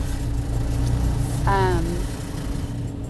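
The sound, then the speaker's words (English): Inside a car going through a car wash: a steady, muffled rush of water and machinery over a low engine hum, with a short voiced sound from someone in the car midway. “just could not resist being in the car wash right now.”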